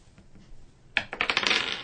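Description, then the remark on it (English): After a second of near silence, dice clatter onto a hard table with a sharp first hit followed by a quick run of rattling, bouncing clicks, fairly loud. “We need the big dice. Big rolls.”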